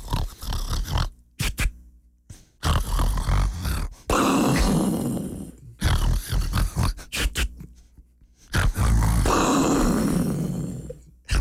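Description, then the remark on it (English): Loud, rasping snoring repeats in a steady rhythm, about four long snorting breaths with brief silent gaps between them, with no one talking. “is facing attempted murder charges after she shot her boyfriend last Wednesday for snoring too loudly.”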